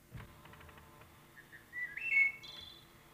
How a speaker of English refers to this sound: In part, it's the sheer beauty and the amazing intricacy of the songs. What, for instance, has more resonance and attractive meter than the flute-like notes of the wood thrush?